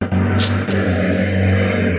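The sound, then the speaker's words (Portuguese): A car passes by during a Rádio Armazém recording, its noise getting past the sound barriers: a steady low engine hum with a droning tone and broad road noise at an even loudness throughout, with no one talking. “Ó, obrigado, carro passando aí no meio.”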